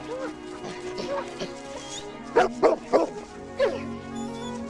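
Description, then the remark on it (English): A dog named Shadow barks in a quick cluster of three or four excited, loud barks, preceded by softer yips and whines, over a steady soft background hum. “He was a puppy again, reunited with his best friend.”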